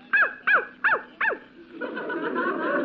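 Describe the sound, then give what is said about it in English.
A dog named Rover barks four times in a quick, evenly spaced series of short, sharp yelps, each bark standing for a digit as he answers what 2 minus 2 is, followed by a soft, rising wash of crowd laughter. “When he don't bark, that means zero.”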